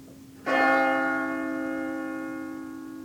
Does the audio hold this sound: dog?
no